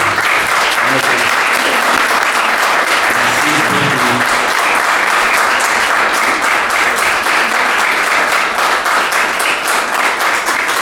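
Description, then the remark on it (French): An audience at the Théâtre de la Parcheminerie applauds warmly and steadily for about eleven seconds, dense clapping at full volume, with a faint murmur of voices beneath. “Toujours est-il que je vous demande, s'il vous plaît, de applaudir très chaleureusement.”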